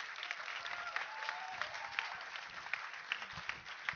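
Steady audience applause, a dense patter of many hands clapping at a moderate level throughout, with a few sharper claps standing out and faint voices mixed in.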